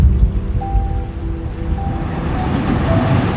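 Steady Atlantic Ocean surf washes continuously with a broad, rumbling roar, fairly loud, with faint tonal hums drifting through in the background; no one speaks.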